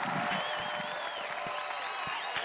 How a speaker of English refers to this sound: Give yourselves a round of applause. I'm going to give you the applause for y'all.